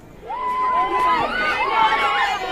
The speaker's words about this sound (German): Es hört sich ja fast so ein bisschen Cheerleader-mäßig an hier, ne? Ja, das ist so... Ja, das sind halt Schulmädchen, die einfach richtig Spaß gehabt haben und richtig aus voller Kehle gesungen haben.